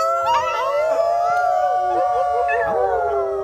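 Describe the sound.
People in Oshkosh, Wisconsin, imitate wolves, howling at the moon: several loud, sustained howls overlap and slide up and down in pitch for a few seconds, steady without a break.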